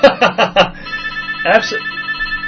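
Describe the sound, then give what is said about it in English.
A telephone rings, with a quick run of short bright bursts followed by a sustained electronic ringing tone, then another burst. It is fairly loud. “Someone wants to talk to you. Yeah, after we stop for the phone calls, I'll call.”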